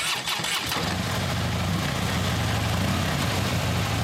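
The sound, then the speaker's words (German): A Harley motorcycle engine at the Harley Days biker meeting on the Großmarkt grounds in Hammerbrook catches with a short burst of sputtering revs, then settles into a loud, steady, low-pitched rumbling idle that continues without pause. No one speaks. “Es sind wieder Harley Days. Die Biker treffen sich von Freitag bis Sonntag in Hammerbrook auf dem Großmarktgelände.”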